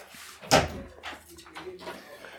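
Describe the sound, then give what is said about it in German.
A door opens with a single sharp clack, followed by muffled voices talking quietly. “Machen wir die Tür zu, auch? Die machen wir wieder zu, aber ich gebe die Leine noch ab.”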